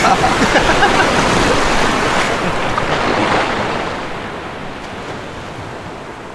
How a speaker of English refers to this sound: Oh, you're gonna splash me? Yep. Oh, it's on. Come and get me then.